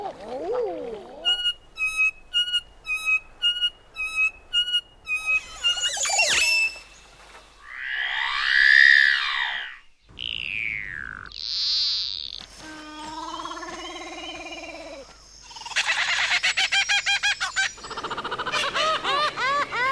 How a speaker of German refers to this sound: Aber so gemischt, abwechselnd, als von Riesenurwaldbaum zu Riesenurwaldbaum hin und her geworfenes Vogelgesamtkonzert, als exotisches Vogelorchester, da haben die Krächzer doch was, oder? Sie klingen ungewohnt, fremd und fern, eben exotisch.